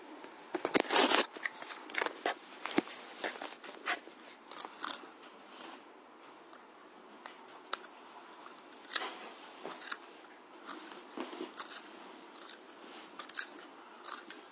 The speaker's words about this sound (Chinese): 再选一支铅笔吧。 我看看还有没有铅笔啊？我们削一支白色的铅笔吧。